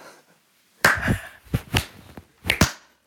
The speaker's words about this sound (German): Ja, das ist wow. So, das ist, ich würde jetzt gerne den Slow Clap starten.